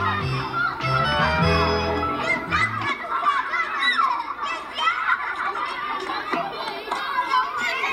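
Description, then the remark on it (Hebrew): Many children's voices shout and chatter over one another, a lively, continuous playground hubbub that stays busy for the whole stretch, as children climb, play and jump on an outdoor sculpture that serves as a playground. “בעצם הוא מעין מגרש משחקים לילדים, שילדים צריכים לעלות עליו ולשחק, לקפוץ, וזה גם קורה.”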